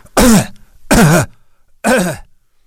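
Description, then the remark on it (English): Three loud throat-clearing coughs at a press conference come in a steady rhythm about a second apart, each a short rough burst with a gravelly, voiced edge, with quiet pauses between them and no talking. “So let's get the coughing out of the way.”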